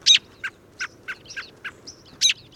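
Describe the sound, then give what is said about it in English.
American robin calls: a series of short, sharp chirps at an irregular pace, with louder, fuller calls at the start and end and softer ones between, heard alone over faint background noise. “At this time of year, these normally solitary birds flock together in an adaptive strategy that makes it easier to find fruits and berries on widely scattered trees and shrubs.”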